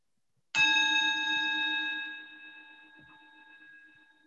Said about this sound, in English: And I'm going to start by ringing a little bell. And at the end of the session, I'll ring another bell.